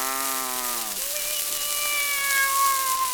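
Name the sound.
cat meowing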